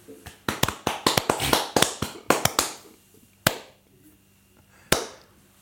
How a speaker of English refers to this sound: There's always that awkward clap.